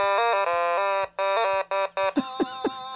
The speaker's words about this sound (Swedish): Någon typ av instrument, va? Det var ingen höna det där. Men det är gränsfall alltså. Otamatone, det är ett av världens nyaste instrument. Jaha. Det ser ut som en gullig liten not. Och det spelas genom att man liksom drar och trycker längs notens